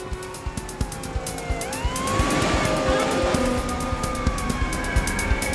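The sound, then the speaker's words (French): A siren wails with rising and falling tones, growing louder as it draws closer, over the steady rumble of road traffic and passing cars. “En entendant le bruit d'une sirène qui approchait, le voleur prit la fuite sans insister.”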